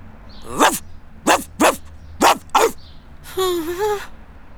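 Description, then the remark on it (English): A dog barks sharply five times, the barks coming singly and in quick pairs, then lets out a longer, wavering whine-like yelp. “Attention, chien méchant! Beware of the dog.”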